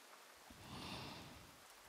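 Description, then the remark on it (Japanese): Soft, steady rain hitting the ground and roofs, flowing down gutters and dripping from eaves, a continuous hiss that swells slightly in the middle, heard alone with no voices. “軒から滴ったり、いろんな水音が合わさった複雑な音。”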